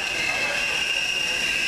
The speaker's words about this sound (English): A subway braking,